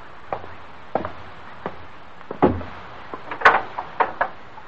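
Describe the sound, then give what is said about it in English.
An astronomer unlocks and opens the door of an observatory: scattered clicks and clunks, a rattling latch, then a louder cluster of knocks and scrapes near the end. Fairly quiet, with no voices. “He's opening the door of the observatory.”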